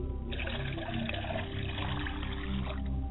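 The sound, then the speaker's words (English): Liquid is poured out as a libation to the south in a steady, continuous trickling stream for about three seconds, moderately loud, with no one speaking. “I pour libations to the south, and I say Ashe.”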